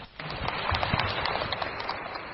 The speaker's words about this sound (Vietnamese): Xin quý vị hãy lắng nghe với tràng pháo tay dành cho ni sư Thích Nhữ Như Ngọc.